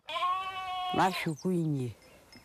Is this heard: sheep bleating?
yes